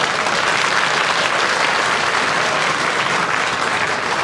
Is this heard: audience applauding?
yes